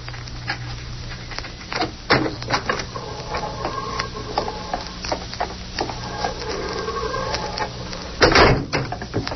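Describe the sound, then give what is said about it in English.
A heavy prison corridor door is unlatched and pulled open, with mechanical clanks and a sustained grinding creak, ending in a loud metallic thud near the close; no one speaks. “Open the corridor door, Joe.”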